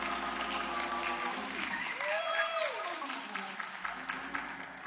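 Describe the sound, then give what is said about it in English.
A church audience applauds a preacher being introduced, with steady, dense clapping that stays loud for the full few seconds, while faint musical tones or voices rise and fall underneath. “Let's give the Lord a hand clap for this man of God.”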